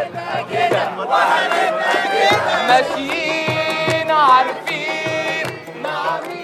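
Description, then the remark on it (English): A huge crowd at Tahrir Square roars and screams in jubilation as Mubarak steps down, many voices shouting and cheering at once, with high whistles and sustained shrieks rising over the dense, continuous din. “And I was at Tahrir Square when Mubarak stepped down, and the euphoria that just was like waves coming to you from the crowd was just amazing.”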